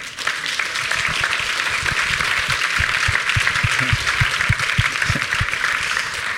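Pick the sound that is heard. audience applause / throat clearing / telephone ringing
audience applause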